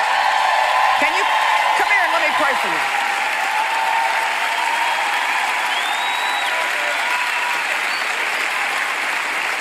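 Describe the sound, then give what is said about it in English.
A crowd applauds steadily and loudly for about ten seconds, with scattered cheers and rising whoops early on and a brief high whistle partway through. “Stand up, wave, scream, something.”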